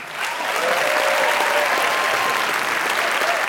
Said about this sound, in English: Round of applause for all our storytellers.